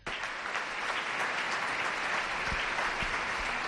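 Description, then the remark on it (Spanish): Steady, dense applause from a crowd at the Regional Parliament of Cantabria, Spain, as María José Sáez de Buruaga takes office as president of Cantabria, a continuous wash of many hands clapping at an even level throughout, with no voices standing out. “Hola, ya escuchamos esos aplausos.”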